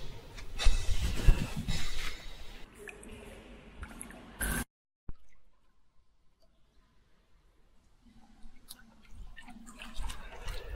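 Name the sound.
dripping water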